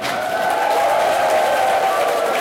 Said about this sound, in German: So, von daher, nochmal großen Applaus für das Team aus der Lausitz.